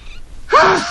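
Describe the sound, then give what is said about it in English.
A single sneeze bursts out suddenly after a brief quiet moment, fairly loud, with a short voiced tail trailing off at the end. “Bless you.”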